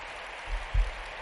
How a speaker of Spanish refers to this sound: Aplausos ahí a las féminas, sí señor.